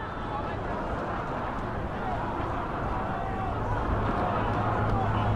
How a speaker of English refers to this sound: Chants of Obama, Obama. Rippling through the crowd.